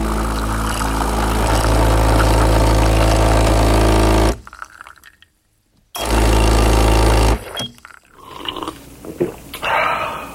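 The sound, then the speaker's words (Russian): A coffee maker in a kitchen brews coffee, running with a loud, steady mechanical buzz in two bursts separated by a short silence, followed by quieter, irregular hissing and gurgling sounds. No one speaks. “Кое-как, но сотрудник все-таки открывает глаза, влезает в тапки, доходит до кухни и ставит кофеварку, чтобы сварить ароматный кофе, хоть что-то приятное с утра.”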